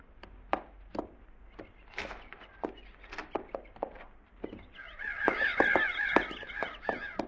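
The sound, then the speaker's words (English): Crows caw in scattered, harsh bursts that grow into a dense, overlapping chorus partway through. They are crows that had been flushed and have gone back to eating. The calls are loud, with no voices. “Them crows we flushed back there went back to eating again.”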